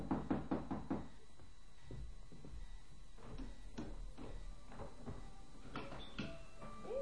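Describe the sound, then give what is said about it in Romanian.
A quick series of about six firm knocks on the wooden door of a cottage, distinct, followed by quiet room tone with faint scattered thumps and rustles. “Ciocănim și ne rugăm frumos pentru misca Eva Tăciune aprinși.”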